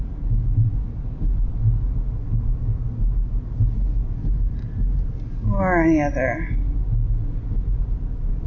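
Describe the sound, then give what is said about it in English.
Steady low rumble of road noise inside a moving car runs the whole time, loud and constant, with a person briefly speaking over it near the end. “You may have to put up with the sound of my car.”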